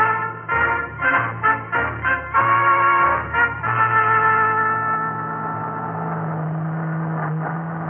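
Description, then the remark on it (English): A heavy army truck engine runs loudly as it carries supplies overland to Alaska on the route from Dawson Creek to Fairbanks, its pitch surging and dropping in uneven bursts as it works, then settling into a steady, droning rumble. “Army trucks carrying supplies overland to Alaska, to the revelation of a new frontier.”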